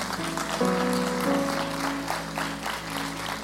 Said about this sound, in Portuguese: Você pode dar uma salva de palmas para o Senhor?